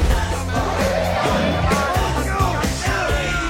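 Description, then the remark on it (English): Several people cheer and high-five inside a moving station wagon, whooping and yelling together in an excited burst, loud over a steady low engine rumble. “Inside the station wagon, they cheer and high-five.”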